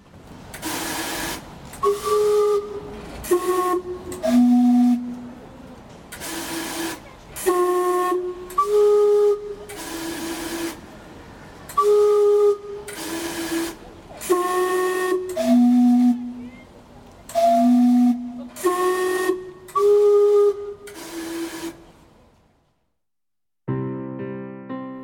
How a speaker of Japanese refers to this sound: 小樽の蒸気時計を見てみると、バンクーバーと書かれたレリーフが施されているではありませんか。なんと制作者はガスタウンの時計職人、レイモンド・サンダース氏。私がバンクーバーで見たものが1号機、小樽にあるものが同じ作者の2号機だったのです。それでは蒸気時計の汽笛に耳を傾けてみましょう。